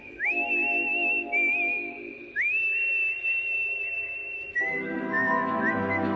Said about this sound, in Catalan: Que curiosa que és la feina dels xiuladors professionals que actuen al món del cine. Com Daryl Hannah, aquí anant a per Uma Thurman amb un bonic pegat d'infermera a l'ull.